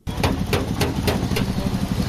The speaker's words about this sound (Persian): صدای چکش های پسر 14 ساله است که موتر را در ترمیمگاه محلی در شهر بامیان مرمت می کند.